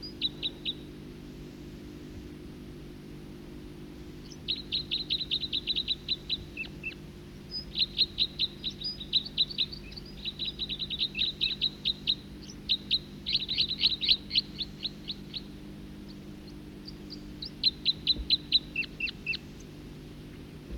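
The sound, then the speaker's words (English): Bird calls: the second of two birds, about 50 meters away, gives bursts of rapid, high-pitched chirps in repeated short series, separated by brief pauses, over a steady low hum, with no talking. “Second bird.”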